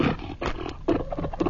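Fur seals bark and roar in a loud chorus: several rough, throaty calls overlap in quick bursts with no pauses between them, and no one speaks.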